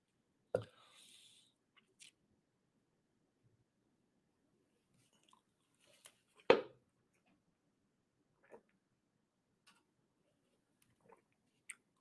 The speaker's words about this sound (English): Oh, it took too big of a... I tried to finish the coffee. Now it's finished.